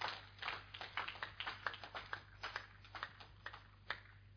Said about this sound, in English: Let's give the Lord a super hand clap. That's not super. Super hand clap. Amen.